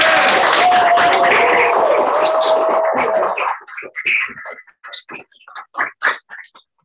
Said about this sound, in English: a quick round of applause for Christopher Collins and Joan Bauer